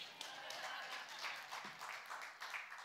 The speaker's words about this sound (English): I'll let you clap.